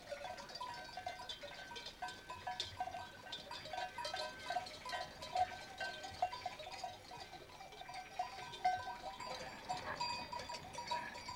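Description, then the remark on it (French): A herd of goats on poor, stony land in Malta mills about with bells clinking and jangling constantly, while occasional bleats rise over the steady, busy clatter of the flock. “Sur ces terres, pauvres et caillouteuses, les bergers utilisent pour leurs chèvres les parcours et les abris de toujours.”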